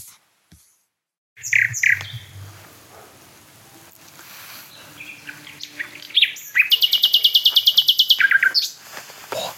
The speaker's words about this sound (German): Also wir stehen jetzt bei der Hotspot-Nachtigall. Und das ist auch die von der ersten Aufnahme. Das ist die, als allererstes hier ankam. Und eigentlich am konstantesten singt. Ihr hört es, warum? Weil es einfach wunderschön ist.